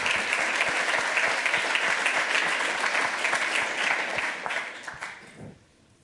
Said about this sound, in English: Okay, give him a huge round of applause for finishing on time.